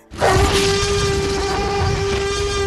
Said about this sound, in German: Hier hören wir ihn schon brüllen, den T-Rex.